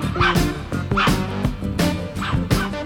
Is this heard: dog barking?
yes